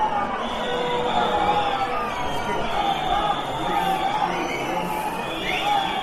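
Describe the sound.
A large crowd in the Plaza Mayor of Salamanca, at the central National Police Day event, raises a steady, loud wall of booing and shouted chanting of "fuera, fuera" ("out, out") at Interior Minister Fernando Grande-Marlaska, holding for the whole stretch, many voices blending into a continuous roar.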